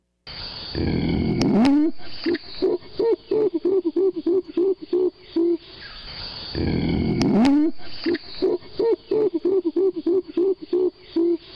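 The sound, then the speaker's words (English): An adult female Western gorilla hooting in two bouts, each opening with a rising, breathy call that breaks into a quick, steady run of low, resonant hoots. No one speaks. “This is described as hooting, gorilla hooting.”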